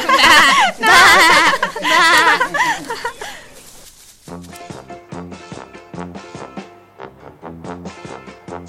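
A sheep bleats loudly and close up, a long wavering cry lasting a few seconds, followed by light, bouncy music with evenly spaced plucked notes.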